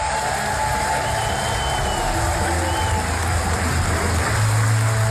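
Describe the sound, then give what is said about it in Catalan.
A theatre audience at the Teatre Goya gives a sustained ovation at the end of the play Un sogre de lloguer, dense clapping roaring steadily for several seconds, with a low murmur of voices and cheers swelling underneath toward the end. “Hi ha ovacions, però vaja, o sigui, això és una ovació real.”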